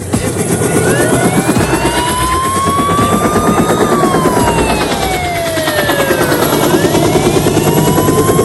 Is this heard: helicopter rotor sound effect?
yes